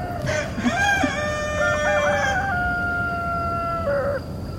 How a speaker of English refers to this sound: And people don't like roosters. What the heck is wrong with them?